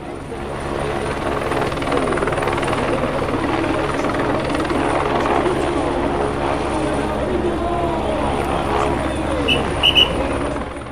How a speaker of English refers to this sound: the noise of the helicopters, the thwacking blades we can hear, is a sign that the riders are almost here.